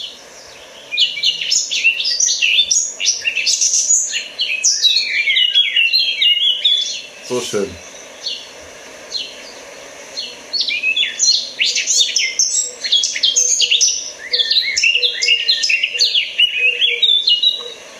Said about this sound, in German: Ja, es ist eigentlich fast zwischen Amsel und Nachtigall. Genau. Und ich weiß, warum es einen nervös macht. Ich lasse noch mal kurz singen, bevor ich weiterrede.